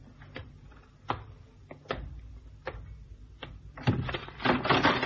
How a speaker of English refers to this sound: Hey, what was that? Trap door. See in the corner. Uh-huh. As we came under the bridge, somebody did a disappearing act down the trap door.